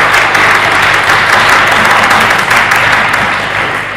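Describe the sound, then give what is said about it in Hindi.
An audience claps loudly and continuously for Jesus, a dense steady wash of many hands that holds for several seconds and eases off slightly at the end. “Hallelujah, यीशु के लिए बहुत जोरदार तालियां दीजिए, जोरदार तालियां यीशु के लिए, यीशु के लिए।”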